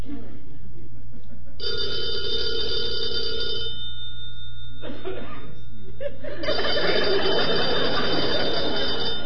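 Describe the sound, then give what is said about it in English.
An old-fashioned telephone bell rings in two long, loud bursts separated by a short pause, with a low hum underneath and a brief murmur of laughter between the rings. “Answer the phone.”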